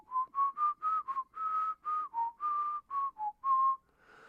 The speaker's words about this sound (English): You used to whistle like.